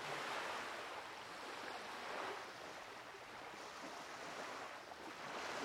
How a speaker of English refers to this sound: Hear the sounds of the ocean.